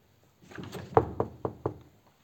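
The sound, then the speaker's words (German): Four sharp knocks on a door, with a quickening uneven rhythm over a low shuffling background; no one speaks. “Da scheint jemand an der Tür zu sein.”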